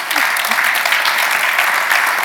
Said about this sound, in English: Round of applause for that.